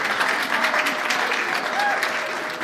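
A group of people in a hallway outside a courtroom claps steadily for a few seconds as the plaintiffs' counsel comes out after a trial, a dense, even patter of applause with some indistinct voices murmuring underneath in an echoey indoor space.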